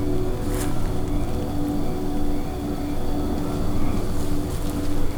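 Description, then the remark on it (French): A motor engine roars steadily for the whole stretch, a loud, continuous drone with a deep humming rumble that never lets up. No one speaks. “Qu'est-ce qu'il y a de plus horrible que ces bruits de moteur ?”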